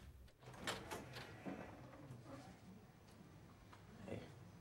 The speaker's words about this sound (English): She opens the door and gives Sean a broad smile.